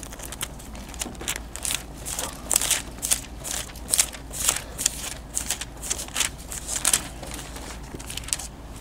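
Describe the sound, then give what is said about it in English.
Thin Bible pages rustle and flip repeatedly as people turn to Isaiah chapter 38, a crowd of soft crisp turns and crinkles overlapping for several seconds, with no one speaking. “Still see pages turning, so I'll just wait a moment.”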